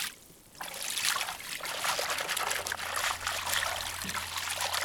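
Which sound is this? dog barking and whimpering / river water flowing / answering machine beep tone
river water flowing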